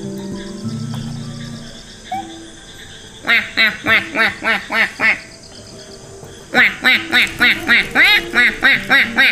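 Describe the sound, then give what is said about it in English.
A duck quacks in two rapid, rhythmic bursts of about eight loud, nasal quacks each, separated by a short pause, after a few seconds of quieter background sounds. “Little duck, where are you?”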